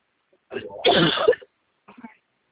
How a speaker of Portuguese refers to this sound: Ai, pera, só um pouquinho, tô tossindo.